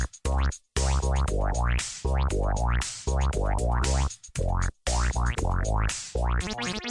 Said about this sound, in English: Whoosh. There's the sound effect.